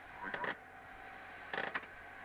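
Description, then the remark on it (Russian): A Polinom compressor runs with a steady, low mechanical hum and a faint tonal whine, broken by two short bursts of creaking rattle about a second apart. No one speaks. “Этот звук, слышите, это... Компрессор работает, полиномовский.”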